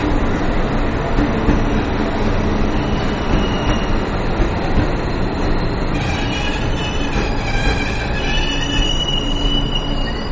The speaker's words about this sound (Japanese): ちょっと向かいの電車が今来ましたけどね